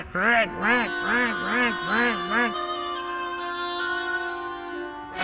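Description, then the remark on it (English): About six quick, nasal quack-like notes bounce out in a rapid rhythm, loud. A long held tone follows, like a reed instrument imitating a cross, squawking duck. A duck quacking angrily at a cat from the middle of a pond. “While the duck quacked angrily at the cat”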